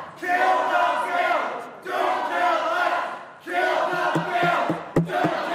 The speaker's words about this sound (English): As Senate Majority Leader Mitch McConnell asked for the vote on the motion to proceed to begin debate on the GOP health care plan, protesters in the Senate gallery started yelling.